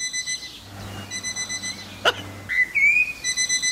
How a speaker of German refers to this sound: Also, die manchmal machen Amseln auch Wecker nach. Achtung, das ist wirklich eine Amsel, das da.